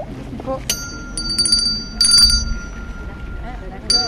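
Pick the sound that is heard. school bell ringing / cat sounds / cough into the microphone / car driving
school bell ringing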